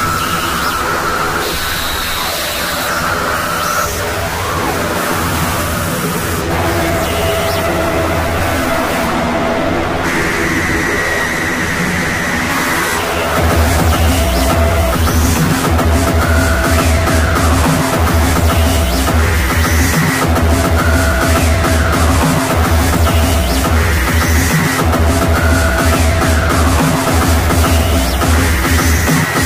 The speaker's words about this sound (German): Zumischung, wird die zugefügte Verzerrung unangenehm deutlich. Achten Sie einmal darauf, was passiert, wenn der Mixregler im folgenden Beispiel bis zum Anschlag aufgedreht wird.